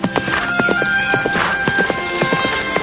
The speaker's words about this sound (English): He watches as a man rides past on a horse.